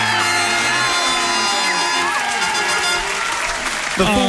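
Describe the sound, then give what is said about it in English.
A studio audience breaks into sustained, dense applause with whoops and cheers rising over it as a guest is welcomed at Joy 94.9, a steady loud roar of clapping and voices that carries through the whole moment. “The studio audience couldn't hold themselves back.”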